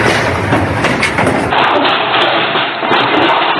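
Loud, continuous rumble of the magnitude 5.5 earthquake that struck Zagreb at 6:24, a deep roaring noise mixed with knocking thuds and rattling that stays heavy throughout, with no voices.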